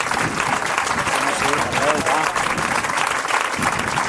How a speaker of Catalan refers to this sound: Un fort aplaudiment a tots.